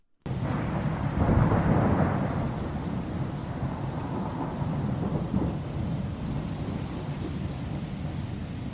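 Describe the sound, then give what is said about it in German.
A heavy rainstorm pours steadily while a deep roll of thunder swells early on and rumbles away, leaving dense, constant rain hissing with no voices. “Die Behörden bitten, alle Bürger zu Hause zu bleiben und sich nicht dem tobenden Sturm auszusetzen.”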